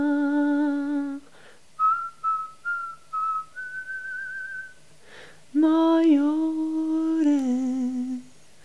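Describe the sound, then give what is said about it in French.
A short whistled melody of several clear, high notes, some gliding and one held, sits between sustained, low sung or hummed tones, all fairly loud with no talking. “Alors là, avec une petite note, voilà, sifflée, petite note perso, mais voilà, parce que aussi c'est quelque chose qu'on oublie, la voix sifflée.”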